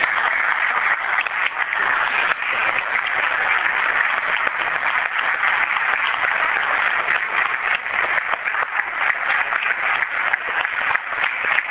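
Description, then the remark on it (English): Sustained applause from a crowd for the fire chief of the City of Newton, honoring his 40 years of service; a steady, dense patter of many hands clapping at an even loudness for about twelve seconds, with no talking over it. “It's been great working with you, and I'm hoping for a nice round of applause.”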